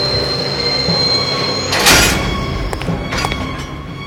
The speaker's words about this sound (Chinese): 火车怎么了，列车长？为什么半路上停了？ 半路上，科尔比镇是最后一站。 荒唐，不可能，火车应该一直开往阿拉哈巴德。